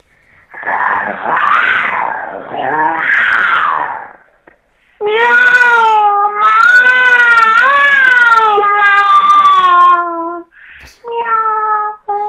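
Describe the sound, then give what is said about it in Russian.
A cat meows loudly in long, drawn-out, wailing yowls: two rough cries, then a sustained moaning meow of several seconds, followed by a couple of shorter calls. “Нормально, я намек понял, кошечка.”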